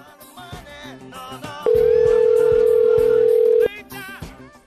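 telephone ringing tone

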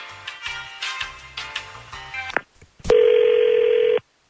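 telephone number being dialed

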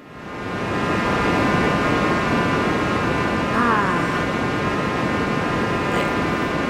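white noise

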